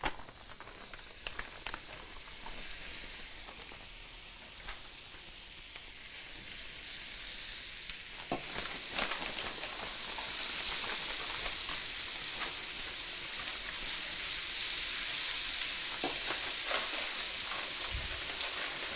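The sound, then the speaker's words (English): Two 8-ounce packages of vegan chicken pieces sizzling in melted vegan butter in a hot pan, a steady crackling hiss that jumps louder partway through as more hits the pan, with scattered pops and no talking. “Once the butter is melted, we'll add our 2 8-ounce packages of vegan chicken.”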